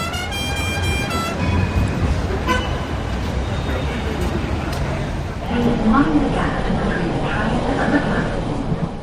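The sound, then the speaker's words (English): Busy city street ambience in London with a steady roar of cars and buses, a brief horn toot at the start, and indistinct voices of passersby chattering in the background. “People were rushing about and the streets were filled with the sounds of cars, buses, and cheerful chatter.”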